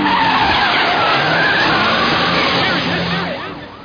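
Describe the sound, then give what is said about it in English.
The tires of a stolen car skid loudly and continuously with a harsh, wavering screech over engine roar, easing off slightly at the very end as the car passes by. “Captain, some nut went through here in a stolen car.”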